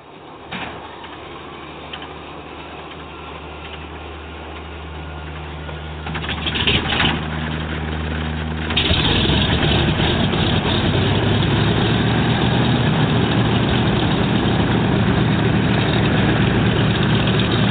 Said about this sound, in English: Captain, the DC-3. Okay, here we're going to start the engines. Okay, go ahead.